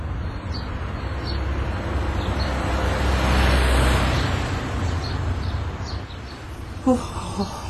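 A steady wash of traffic noise in a summer courtyard between apartment blocks in Bulgaria, with a passing vehicle swelling midway, a few faint bird chirps above it, and a brief sharp knock near the end.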